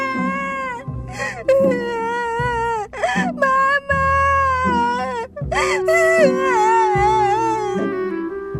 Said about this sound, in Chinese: 远远的就听见汉斯奇大无比的哭声，让人听了十分不舒服，邻居都非常讨厌听到他的哭声，但偏偏汉斯就是那么爱哭